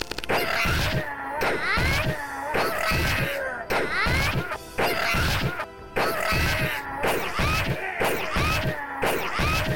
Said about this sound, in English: Arrow shot.